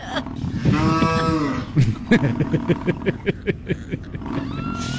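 A long, drawn-out bovine moo rings out loudly, followed by a quick series of short, rhythmic grunting lows, like a cow and a bison calling; a recreated audio of a cow and a bison together.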